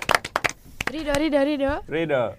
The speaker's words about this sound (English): You clap for her.